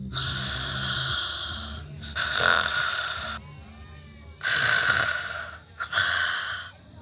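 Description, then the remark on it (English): A person snoring loudly, with three long, rasping inhalations separated by quieter exhales, in a slow, steady rhythm with no talking. “He was lost in thought, just long enough for Axel to begin snoring.”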